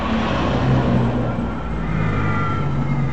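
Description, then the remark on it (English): An ambulance's engine rumbles steadily as it arrives at the scene of a vehicle crash in a creek, a loud, constant low drone with a faint whine above it and no siren sounding. “Here, an ambulance arrives.”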